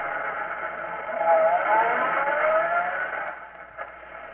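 A car engine rumbles steadily, swelling slightly as it pulls up, then dies down as the vehicle comes to a stop, with a brief click near the end.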